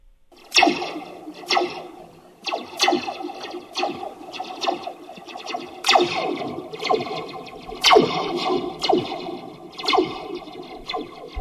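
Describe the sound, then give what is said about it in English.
A Slinky phone gives off a string of spacey, laser-like zaps, each a sharp twang that sweeps quickly downward with a metallic, echoing ring, repeating irregularly with no voices. “So now we know where they get all those outer space sound effects from the space movies.”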